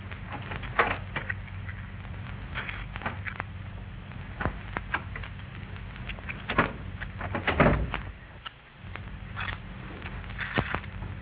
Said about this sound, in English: Somebody's at the door. He's trying the knob.